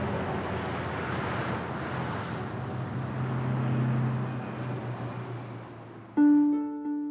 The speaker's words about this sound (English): One day, in April 1944, a Chevrolet truck climbed the rugged mountain roads to reach the small town surrounded by forests.